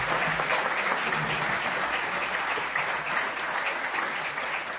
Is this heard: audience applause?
yes